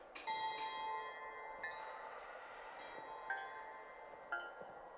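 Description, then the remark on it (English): Crystal bells chime several times at uneven intervals, each bright strike ringing on with a long, shimmering sustain that overlaps the next; soft, with no voices. “Crystal Bell, A. Crystal Bell, B. Crystal Bell, C.”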